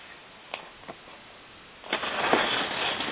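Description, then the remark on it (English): Inside a car, a low steady hum is broken by two soft clicks before the engine noise swells into a louder, continuous rumble that carries on to the end, with no one speaking. “Well, right now I'm in the car, so I don't have a laptop in my face.”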